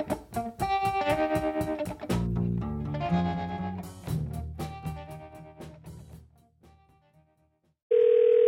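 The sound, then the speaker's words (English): Music plays on 89.7 WGBH Boston Public Radio, fades into a moment of silence, then a loud, steady telephone dial tone starts abruptly as a call is placed to a mother for Mother's Day, holding through the last second. “phones his mom for Mother's Day and interrupts our conversation”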